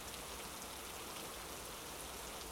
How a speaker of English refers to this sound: Why are you out here, anyway? It's freezing, and... yeah, obviously, raining.